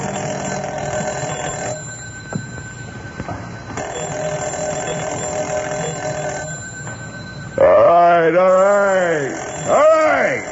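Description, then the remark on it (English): A telephone bell rings at home at almost 2:30 at night, in repeated long bursts with short pauses between them, steady and fairly loud, and then a man's voice starts speaking. “I was almost an hour trying to get to sleep when the phone rang, and I looked at my watch.”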